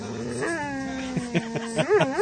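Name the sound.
dog growling and whimpering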